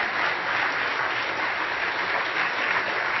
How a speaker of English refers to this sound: After all, it is Father's Day today, so I'm going to ask all the fathers in the audience to stand up. All right, let's honor them with our applause.